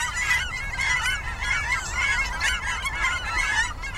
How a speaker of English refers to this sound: Cackling geese, which look like pint-sized Canada geese, have a rhythmic, higher-pitched call.